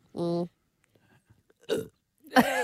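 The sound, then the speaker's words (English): One small, forced burp made on cue, a short voiced croak lasting under half a second, fairly loud, followed after a pause by brief bursts of vocal noise. “That was like a mini cat spew. I don't like burping.”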